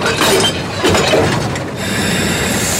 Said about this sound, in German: Daraufhin begann die Maschine zu rattern und zu zischen. Wurzelknuscht hatte wohl den falschen Hebel erwischt, denn plötzlich schoss eine Salve Honigdrops aus dem Auspuff der Maschine.